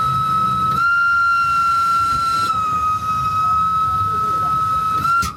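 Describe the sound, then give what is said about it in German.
A loud, sustained whistle from a Rhaetian Railway train blows steadily for several seconds over the low rumble of the moving train as it enters the new Albula Tunnel, with a brief shift in tone near the start and end. “Mit einem lauten Pfiff fährt der Zug rein in den neuen Albula-Tunnel.”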